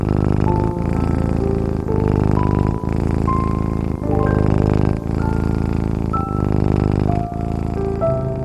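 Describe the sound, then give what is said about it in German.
A small cat curled up on a person's belly purrs in a steady low rumble, swelling and dipping about once a second with its breaths, beneath soft background music of sustained, gently shifting tones. “die kleine Zauberkatze, rollt sich direkt auf deinem Bauch zusammen. Sie schnurrt und fühlt sich ganz weich an.”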